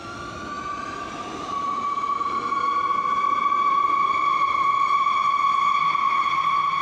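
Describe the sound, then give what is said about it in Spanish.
A blue-and-white Madrid Metro train accelerating underground on the way to Chamartín: a high electric motor whine rises in pitch, then settles into a steady, ringing tone over a constant rumble, growing louder after the first second and a half. “Un par de serpientes azules y blancas me han permitido cruzar Madrid por el subsuelo y llegar de nuevo a Chamartín, que ve cómo poco a poco sus obras se acercan al final.”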